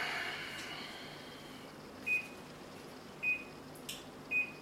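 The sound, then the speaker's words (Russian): An air conditioner gives three short, clear electronic beeps, spaced about a second apart, as its temperature is set cooler, with only a faint hum of background noise and no one talking. “Сделай кондей, пожалуйста, попрохладнее.”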